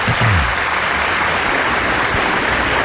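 A steady wash of crowd applause fills the whole moment, dense and loud, with countless claps blurring into a continuous crackling roar that never lets up.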